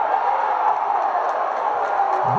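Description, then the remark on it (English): A basketball crowd at a Westbury versus Port game cheering after a charge call and a made basket, a steady, loud roar that holds for the whole stretch, a dense wash of many voices without clear individual shouts or pauses. “The crowd of going nuts.”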